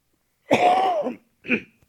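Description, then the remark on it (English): Two coughs from a person fighting a cold: a longer, rough, partly voiced hack, then a short, sharper second cough a moment later, with no talking. “Let me get my cough drop out.”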